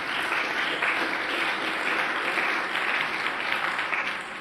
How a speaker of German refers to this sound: Wenn wir schon so schön gerade Beifall gegeben haben